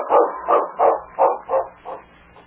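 A lead sled dog barks six times in a quick, steady rhythm, loud at first, then slightly softer toward the end, with no voices around it.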